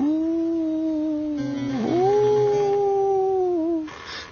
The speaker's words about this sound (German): Plötzlich ertönt ein klagendes Geheul.